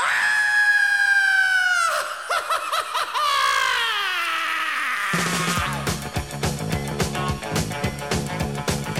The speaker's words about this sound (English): I'm gonna scream and scream again.